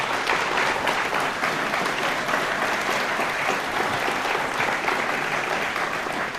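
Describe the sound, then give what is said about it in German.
A crowd applauds this year's well-organized bar, a dense wash of many hands clapping at an even level throughout, fairly loud and sustained with no pauses. “Also Applaus dafür.”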